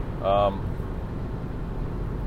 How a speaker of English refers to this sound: But like I said, this is the last time in the car, so don't have to worry about the engine sounds and all that stuff anymore after today.